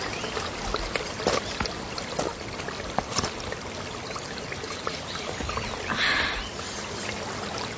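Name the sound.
river water flowing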